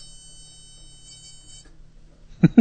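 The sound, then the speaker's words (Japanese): A space heater gives a faint, steady high-pitched electronic beep that holds for over a second and then cuts off, followed by a brief burst of voices. “何の音ですか？ ストーブ。”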